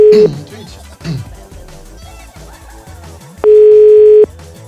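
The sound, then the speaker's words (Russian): A faulty telephone's dial tone sounds as a loud, steady electronic hum, first cut off after a moment, then returning for nearly a second near the end, with muffled voices murmuring in between. “Да это дело телефона этого дурацкого, который никто не может привести в порядок.”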